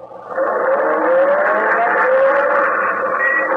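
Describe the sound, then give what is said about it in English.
A car engine catches and roars to life as Marlowe starts the car at gunpoint and drives off, its pitch rising steadily as it pulls away, then holding a loud, steady drone for a few seconds with no voices. “Marlowe, start the car or I'll kill you.”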